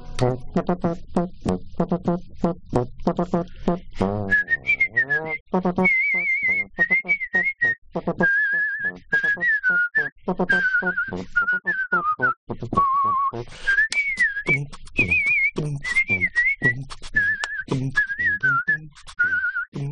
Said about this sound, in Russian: Ну что, посвистите? Посвистеть? Что мы свистим?